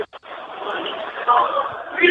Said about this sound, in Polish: jest przy telefonie w tłumie skandującym